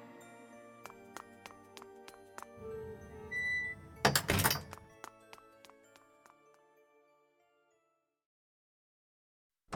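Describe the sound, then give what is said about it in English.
A side door opens with a low rumbling slide and shuts with a heavy thud, surrounded by scattered sharp clicks and faint ringing tones that fade into silence. No one speaks. “I'll have to sneak out the side door.”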